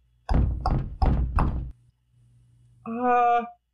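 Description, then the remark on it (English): Four solid knocks on a great big wooden door in a steady rhythm, loud, followed a moment later by a short voiced, tonal sound. “He knocked on the door. And the door knocked back.”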